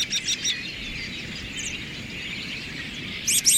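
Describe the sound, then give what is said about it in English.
A flock of American robins calling, with sharp bursts of high chirps at the start and end over a steady wash of softer twittering, with no voices. “A flock of a dozen robins can strip a heavily laden cotoneaster of every last berry in half an hour.”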